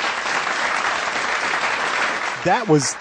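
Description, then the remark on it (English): Steady applause fills the whole stretch, a dense, even patter of clapping at moderate loudness, with a voice briefly speaking over it near the end. “Let's give them a warm applause that for coming on Wheels Off Liberty, guys.”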